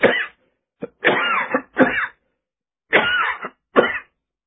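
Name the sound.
coughing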